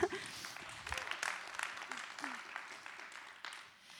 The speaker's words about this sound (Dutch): Dus laten we God een applaus geven.